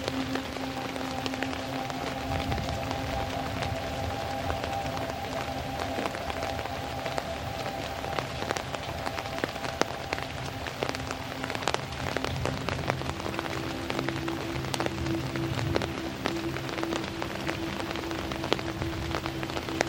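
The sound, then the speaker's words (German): Steady rain patters on a surface for the whole stretch, a dense hiss dotted with sharper individual drops, with a faint low hum running underneath and no voices. “Deine Gedanken verschwimmen mit dem Geräusch des Regens.”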